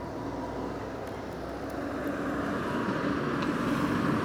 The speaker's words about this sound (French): Me demande aussi pourquoi il y a tant de voitures et de camions qui passent en plein milieu de ce magnifique bourg Becherel. Ça n'arrête pas.